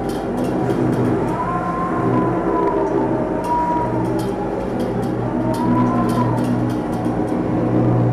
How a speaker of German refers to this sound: Es sind nicht die Sirenengesänge der Meerjungfrauen oder die Rufe der Wale, sondern es sind die Feuer- oder Luftschutzsirenen von Beirut, die an den Strand der libanesischen Hauptstadt dringen.